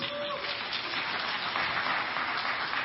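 An audience applauds in a steady, dense wash of clapping that holds at an even, fairly loud level for about three seconds without a break.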